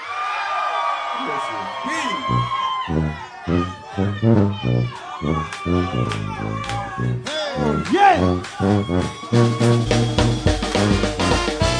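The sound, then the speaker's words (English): A concert crowd at a New Orleans brass band performance screams and whoops, with many high, squealing voices overlapping in shrill bursts over a loud, rhythmic low-pitched backing. The noise stays dense and energetic throughout. “Let me hear somebody scream.”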